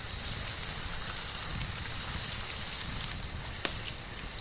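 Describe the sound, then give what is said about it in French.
Bacon sizzles steadily in a frying pan, a continuous hissing crackle that stays level throughout, with one sharp pop near the end. No voices are heard. “L'air se remplit de l'odeur du lard qui grésille dans la poêle.”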